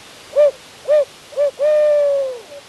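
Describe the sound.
An owl hoot imitated on a hunting call by a turkey hunter in the woods before dawn under a half moon: three short, evenly spaced hoots, then one long, drawn-out hoot that trails off and falls slightly. Loud, with no talking.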